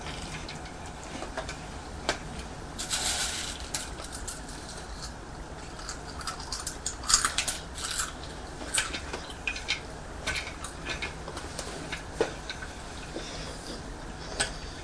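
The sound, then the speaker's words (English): A small Thomas toy train rattles and clicks as it's pushed round and round a cereal bowl, giving a steady stream of light ticking, scraping clatter with brief louder bursts and no talking. “Are you pushing the train round and round the cereal bowl?”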